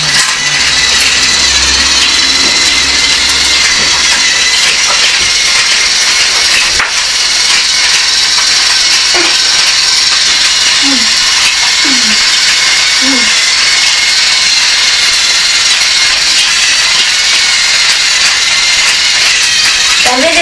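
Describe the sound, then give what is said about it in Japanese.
A train passes by, a loud, continuous roar and hiss of wheels and motion that fills the whole stretch without letting up. “電車通り過ぎてからごめんじゃ。”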